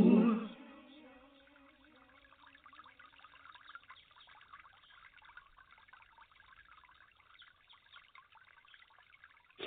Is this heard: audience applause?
no